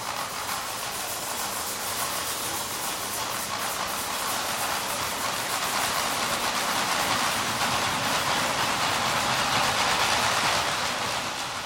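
A steady, rushing metallic wash with dense hiss and a faint rhythmic rattle, building slightly in loudness, much like a train locomotive slowly gathering speed: a gong rubbed and scraped with a mallet on the large stage of Theater Basel in the production "Schraffur für Gong und Theater"; no voices.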